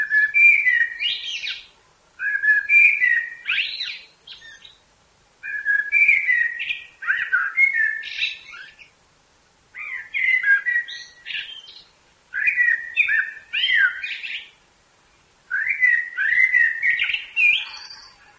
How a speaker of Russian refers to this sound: Когда певчий дрозд с самкой уже построил гнездо, отложили они там яички, вот у него начинается самая красивая песня.